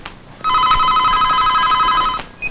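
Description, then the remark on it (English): A telephone rings with a steady electronic warble, one sustained ring of nearly two seconds, loud, with no one talking over it, before it is answered. “Rebecca answers the phone.”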